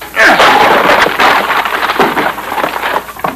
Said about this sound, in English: Well, stand back, Vitamin. I'm going to crack that door open. One small ought to do the trick.